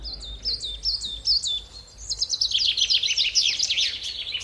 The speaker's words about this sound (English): But if you want to create something very beautiful, then you can only use one sound. It's birds singing.